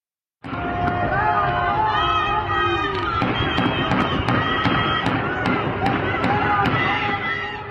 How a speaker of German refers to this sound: Evin steht in Flammen. Es gibt offenbar Schüsse. Autokarawanen machen sich auf zum Gefängnis. Angehörige stehen vor den Mauern und rufen Namen ihrer gefangenen Liebsten, um irgendwie zu helfen.